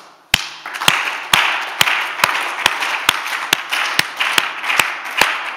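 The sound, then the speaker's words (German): A group of children clap their hands together in a steady rhythm, about a dozen loud, sharp beats, with scattered out-of-time claps and a faint background murmur filling the gaps. “Ich würde sagen, wir beginnen damit, dass wir mal klatschen zusammen.”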